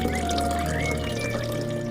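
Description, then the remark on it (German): Water pours steadily from a watering can onto a plant, a continuous splashing trickle lasting a couple of seconds with no voices. “Ja, du bekommst auch noch ein bisschen Wasser.”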